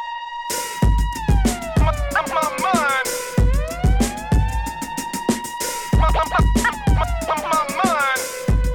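Wailing siren effects, added by the DJ, rise and fall over a pounding rhythmic beat, cut up with quick turntable scratches that chop and bend the siren tones. Loud, with no talking.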